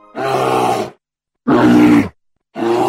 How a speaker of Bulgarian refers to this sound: Познахте ли този могъщ, мощен, внушаващ уважение и страхопочитание глас? Да, така е, това е кафявата мечка. Тя е най-голямото животно в българската природа. Тя е и много специален вид за Национален парк Централен Балкан.